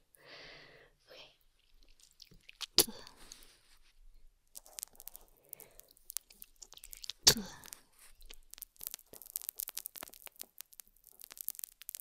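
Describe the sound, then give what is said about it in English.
Wet mouth noises: spitting, popping bubbles and smacking clicks, with two sharp bursts near the start and middle and a dense crackle of wet pops toward the end. “But if you're okay with that sound, as like spitting and air bubbles, then you're gonna love this.”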